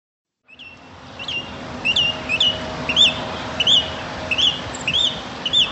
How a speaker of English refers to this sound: Wow. Birds.